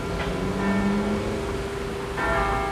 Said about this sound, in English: And so every day when a special bell from St. Boniface rings,